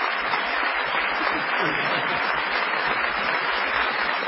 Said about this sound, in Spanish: Vamos a saludar con una ovación, que realmente el tipo se caiga de espaldas, a Patricio Bartón.